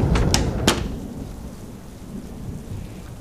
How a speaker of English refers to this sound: Suddenly, they all were sheltered from the raging weather that was going on outside, only hearing the faint beating of raindrops on the sides of the building, and the occasional roar of thunder gave evidence that the storm would not end anytime soon.